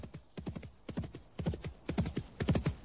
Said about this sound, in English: horse easily outdistances the few mounted guards, who, for some reason, appear anxious to talk to him.